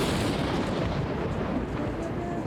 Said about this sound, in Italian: A un certo punto ci fu un tuono improvviso.